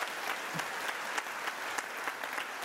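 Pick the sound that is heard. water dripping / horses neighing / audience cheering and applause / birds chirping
audience cheering and applause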